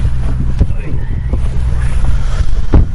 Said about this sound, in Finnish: Täällä on kyllä melkoinen tuuli. On, niinhän sanotkin. Mutta ei kelissä mitään vikaa ole. Tällä radiolähetyksen näkökulmasta niin saattaa olla vähän hankalaa